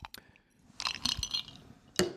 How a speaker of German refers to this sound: Ich höre deine Eiswürfel klappern und nehme das als Überleitung zum nächsten Thema.